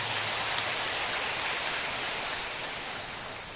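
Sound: audience applause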